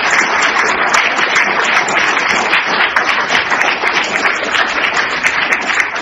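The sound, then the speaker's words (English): Sustained applause from a large crowd, a dense, steady wash of many hands clapping at once, loud, continuing without a break for several seconds, warmly applauding Professor Junichiro Kawaguchi, inventor behind the Ikaros solar sail. “et cet homme, c'est le professeur Junichiro Kawaguchi, que nous pouvons applaudir chaleureusement comme il le mérite, et à travers lui, nous applaudir tous ceux qui ont contribué à ce magnifique.”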